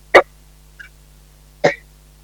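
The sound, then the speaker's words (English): Someone clears their throat in two short, harsh bursts about a second and a half apart, with a faint little catch between them. No one speaks. “I had to clear my throat.”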